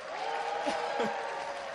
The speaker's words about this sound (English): All right, let's clap it up